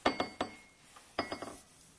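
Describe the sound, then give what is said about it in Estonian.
Bright clinks from a glass flower ornament ring out in two quick clusters, a few sharp taps each, fairly loud with a short shimmering ring after each strike. “Kilikoll teeb meie lillake siin.”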